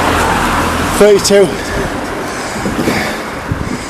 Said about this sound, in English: Basically, the bus that I wanted to get, I'm so used to going the same bus every time to go home. That went, I've missed it.